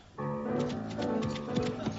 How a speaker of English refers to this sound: Dennis Moore, galloping through the sward. Dennis Moore, and his horse Concord.